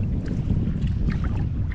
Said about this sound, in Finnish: Ensimmäiset pienet oikeet aallot.